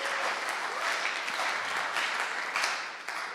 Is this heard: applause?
yes